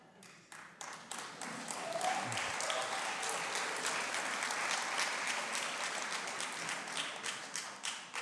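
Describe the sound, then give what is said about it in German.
Sustained audience applause at the evening programme "Gott führt Regie", many hands clapping in a dense, steady wash that swells early and holds strong before thinning slightly toward the end. “Vorsicht, Vorsicht, nicht so sehr klatschen.”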